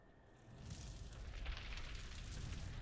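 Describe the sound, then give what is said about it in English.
A sustained, roaring crackle of elemental magic held in the palm of a hand swells up after a brief moment and holds steady, dense hiss layered over a deep rumbling undertone, with no voices. “Crackling the elements in the palm of your hand doesn't scare me.”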